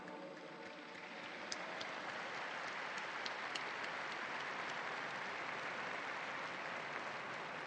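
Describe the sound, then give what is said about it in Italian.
A large crowd applauds the newly beatified steadily, a dense, sustained roar of clapping that fills the whole clip at an even level, with a few sharper individual claps standing out. “Un applauso ai nuovi beati.”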